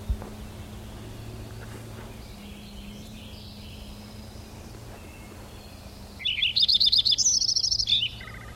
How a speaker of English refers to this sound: There's a finch or something in there too.